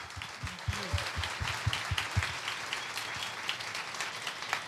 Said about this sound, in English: So, my goodness, can we first have a round of applause for our wonderful guests here tonight? Thank you guys so much for being here this evening.